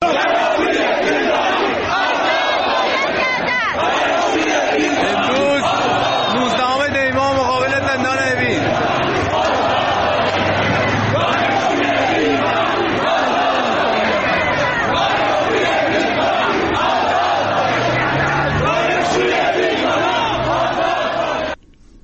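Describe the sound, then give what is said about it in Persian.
A large crowd gathered in front of Evin Prison to protest the detention of dervishes roars and chants continuously, many voices shouting over one another at a steady loud level, with a brief rhythmic chant partway through before the noise cuts off abruptly. “بخش‌هایی از تجمعی که در مقابل زندان اوین شکل گرفته را صداش رو می‌شنویم.”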